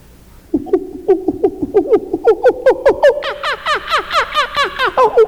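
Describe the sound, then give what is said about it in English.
A voice imitates a kookaburra's laugh: a rapid, rhythmic run of hooting cackles that climbs in pitch and grows louder and more frantic over about five seconds. “You know how a kookaburra laughs?”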